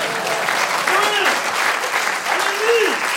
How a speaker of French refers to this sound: On peut applaudir, bien sûr.